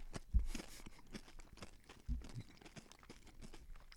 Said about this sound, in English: Okay, one, two, three. Chew it up.